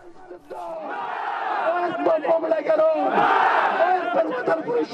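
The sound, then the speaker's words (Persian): A large crowd of protesters in Faryab province, northern Afghanistan, chants anti-government slogans demanding the release of Nizamuddin Qaisari in front of the provincial office, loud and sustained, their massed voices rising and falling in rhythmic bursts with shouting layered over the roar. “تظاهرات در ولایت فاریاب در شمال افغانستان پس از آن به خشونت گرایید که اعتراض کنندگان با شعارهای ضد حکومتی خواستار رهایی نظام الدین قیصاری شده و در مقابل مقام ولایت و ریاست امنیت ملی این ولایت سنگ پرتاب کردند و سپس ساختمان این ولایت را با آتش کشیدند.”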